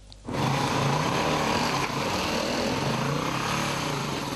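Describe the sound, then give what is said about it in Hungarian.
An off-road motorcycle engine roars to life after a brief quiet moment, then holds a loud, steady drone with a slight dip partway through, ridden by young men in a strictly protected forest area near Salgótarján. No voices are heard. “Hamar véget ért a délelőtti száguldozása ennek a két fiatalembernek. Fokozottan védett területen motoroztak, jogosítvány nélkül.”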